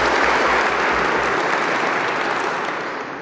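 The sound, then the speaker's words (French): A crowd at a prize ceremony applauds the laureates as they stand, a dense wash of many hands clapping at an even, loud level that eases slightly toward the end, with no voices over it. “Je demande à ces lauréats de bien vouloir se lever et nous allons les applaudir.”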